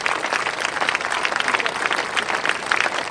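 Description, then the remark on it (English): A steady wash of applause from a crowd, many hands clapping at once in a dense, continuous patter at an even loudness, with no voices rising above it. “So bring on the applause, and off we go.”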